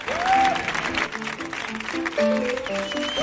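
An audience applauds loudly and steadily for Mark Lenders as he is introduced to give a lecture, a dense wash of clapping with a few voices calling out and whistling over it.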